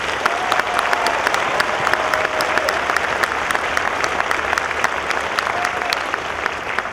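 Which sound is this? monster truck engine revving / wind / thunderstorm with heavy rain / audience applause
audience applause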